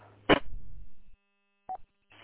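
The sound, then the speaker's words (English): A phone rings with one short electronic chirp, steady and mid-pitched, after a sharp knock and a low rumble, with a brief rustle at the end. “My phone just rang in that time.”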